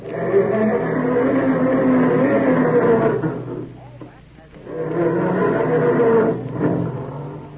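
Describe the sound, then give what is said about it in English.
A family car engine cranks slowly in the morning and struggles to start, in two long, groaning, grinding bursts separated by a short pause, over a steady low hum. “Or does your car sound more like this when Dad goes to start it up in the morning?”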